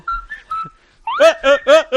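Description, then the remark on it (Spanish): A person whistles three short, clear notes, then a voice follows with four rhythmic, buzzy vocal bursts. “Mi silbido es autóctono.”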